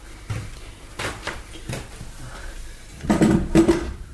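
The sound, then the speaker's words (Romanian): A drawer slides open with a few soft knocks and scrapes, then its contents rattle and clink metallically near the end, moderately loud, with no talking. “Acum deschide sertarul.”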